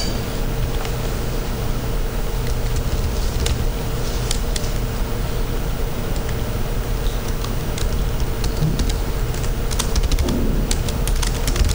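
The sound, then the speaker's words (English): Steady typing on a computer keyboard with irregular clicks and taps continues throughout, over a constant low hum of background noise. No one speaks. “Okay, I'm just typing something.”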